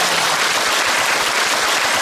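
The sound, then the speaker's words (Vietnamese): A steady burst of audience applause, many hands clapping densely and evenly for about two seconds, fairly loud, with no voices over it. “À, chúng ta cho một tràng pháo tay xem nào.”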